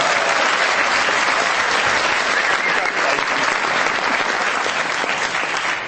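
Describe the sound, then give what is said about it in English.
Steady, dense applause from a large audience for a man celebrating his 40th wedding anniversary fills the whole stretch, loud and continuous with a broad crackle of many hands clapping at once, no voices standing out. “That's got to be worth a round of applause.”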